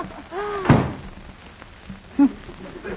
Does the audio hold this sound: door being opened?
yes